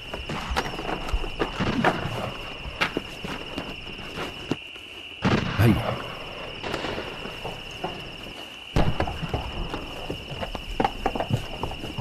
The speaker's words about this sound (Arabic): أعتقد أن الحصان متعب جدا يا سيدي.